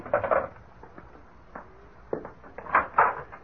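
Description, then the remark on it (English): A door is opened as someone arrives, with a few soft, quiet clunks and rattles, a brief burst at the start and a cluster of handling noises toward the end. “Darling, someone's at the door.”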